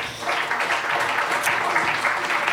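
A crowd applauds steadily, a dense wash of many hands clapping at even loudness throughout, with no pauses or voices rising above it.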